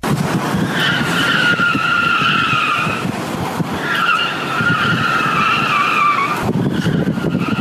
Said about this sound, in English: Yeah, do you have audio of this? Yeah, you want to hear it? Here's Ray's tire screeching.